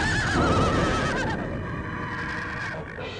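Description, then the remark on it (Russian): A horse in a cave whinnies loudly and wildly, a long quavering neigh that fades into restless breathing and faint hoof movement. “Его оглушило на миг яростное ржание коня, ослепили на миг искры, что летели из-под копыт.”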